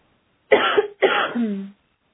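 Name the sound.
coughing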